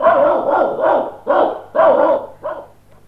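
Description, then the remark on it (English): A dog barks five or six times in quick, uneven succession, loud, with short gaps between the barks and no voices. “People in towns can only keep small animals. Dogs.”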